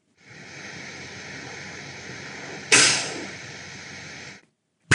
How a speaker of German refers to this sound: Tja, das klang jetzt durchaus wieder nicht ganz so gut. Ja, und tatsächlich, das war jetzt wieder so ein Sicherheitsventil einer Lithium-Ionen-Zelle.